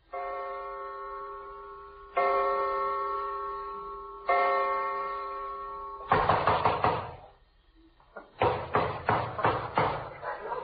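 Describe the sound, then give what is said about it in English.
Three long, ringing doorbell chimes sound one after another, followed by two bursts of rapid, heavy pounding on a door at 3 o'clock in the morning, loud and insistent with a brief pause between them. “Well, don't break the door in.”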